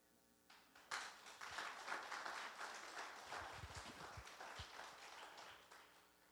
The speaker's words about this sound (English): That applause was kind of quiet.